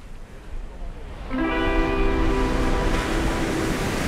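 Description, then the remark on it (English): Beach ambience in Santurce of steady wind and rushing water, a constant broad wash of noise, joined after about a second by a sustained droning tone that holds to the end. “Maybe she also stood here at dusk on a Sunday and contemplated this”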